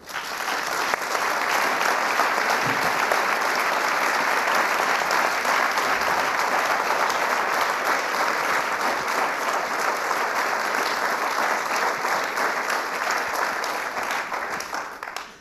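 A crowd applauds steadily, a dense wash of many hands clapping at an even, sustained loudness for about fifteen seconds, with no voices standing out.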